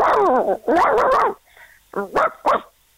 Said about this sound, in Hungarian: ez egy nagy testű. Nagy testű kutya. Igen. Hallod, milyen mély.